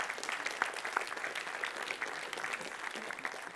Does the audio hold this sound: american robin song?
no